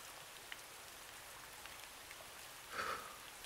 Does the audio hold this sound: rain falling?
yes